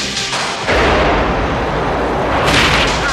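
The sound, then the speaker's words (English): A loud explosion from a small black box thrown into a round shaft bursts in with a heavy, low rumbling roar that sustains for several seconds as a ball of fire rushes back out, then swells again with a hissing, rushing blast near the end. No voices. “A ball of fire rushes back out, and a wave of gas knocks them all to the ground.”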